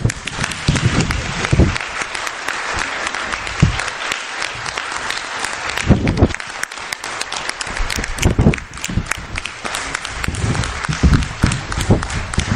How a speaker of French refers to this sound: avec toutes nos félicitations et comme le disait Jacques Martin, sous les applaudissements du public.